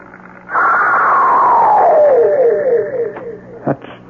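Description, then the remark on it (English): An eerie shriek from the direction of Wicklow Manor, recorded by Mr. Perkins and played back from his tape machine: a loud, harmonic wail that slides steadily downward in pitch for about three seconds, then trails off, with a brief knock near the end over faint hiss. “Well, did Mr. Perkins get a recording of this shriek?”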